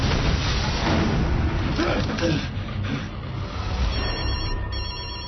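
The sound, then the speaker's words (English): Detective Thomas Craven's telephone rings with a bright, warbling electronic trill that stands out toward the end, sitting over a dense, noisy background with people talking. “Craven's phone.”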